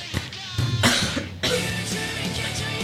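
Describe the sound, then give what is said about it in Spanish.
A couple of loud coughs burst out in quick succession, followed by a throat-clearing rasp and some muffled shuffling, with no speech. “Hay la tos. Perdón.”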